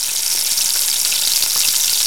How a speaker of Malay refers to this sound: Memasak nasi goreng.